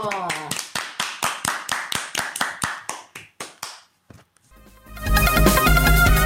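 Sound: applause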